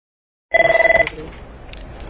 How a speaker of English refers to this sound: It's only 8 a.m. and the phones at the Alabama Women's Center in Huntsville are ringing off the hook.